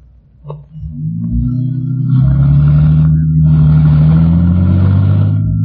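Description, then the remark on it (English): A car engine rumbles to life with a brief click near the start, then revs and accelerates, its loud, steady drone rising in pitch and swelling with road noise. No one speaks. “Come on, let's go in your car.”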